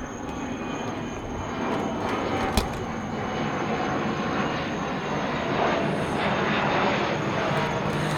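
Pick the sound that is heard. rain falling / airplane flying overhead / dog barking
airplane flying overhead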